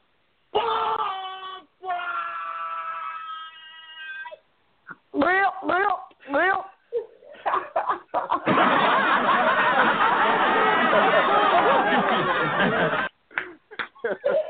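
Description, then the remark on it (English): A crowd reaction sound effect: a drawn-out chorus of voices, then short bursts of yelps and laughter, building into a loud, sustained roar of many people that cuts off abruptly. “That is the crowd's reaction to what you just said.”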